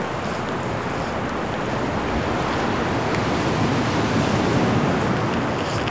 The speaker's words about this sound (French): Des rafales de vent.